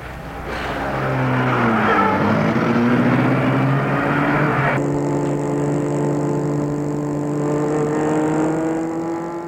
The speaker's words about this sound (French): Le chauffeur les fait entrer. Il entre lui-même et met la voiture en route.